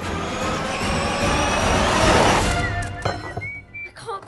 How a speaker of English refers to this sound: Miss Trapper and Danny tear through the snow on her motorbike.